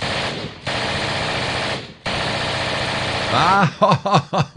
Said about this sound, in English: And by the way, speaking of gunfire, I am going to the gun show tomorrow afternoon, Sunday afternoon.